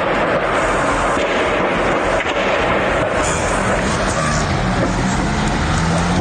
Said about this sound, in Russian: После падения бомбардировщика были слышны звуки не очень сильных взрывов.